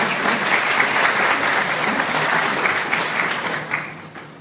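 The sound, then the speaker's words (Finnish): A crowd applauds a newly welcomed group of guests, dense clapping at a loud, even level for several seconds before easing slightly at the end. “Käymme taputtamassa tälle porukalle.”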